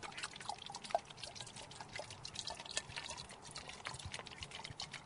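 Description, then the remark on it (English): Water pours steadily into a plastic bottle, filling it about four-fifths full before it is pumped with air using a bike pump, with a continuous gurgling trickle and occasional drips, fairly quiet, with no talking. “Well, let's fill the bottle with water.”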